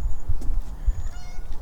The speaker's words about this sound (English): Oh, now I can hear the cat just going crazy. Yeah. Okay, let's see if we can go back up the stairs and listen to the cat.